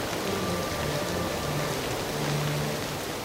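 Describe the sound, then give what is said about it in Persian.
Steady rain falls throughout, a dense, even hiss of drops pattering on a surface, consistent from start to finish with no voices. “باران ببار”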